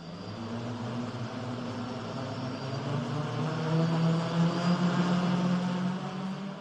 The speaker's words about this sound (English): Det her, det er lyden af en QAV-400 quadratra-drone, hedder det.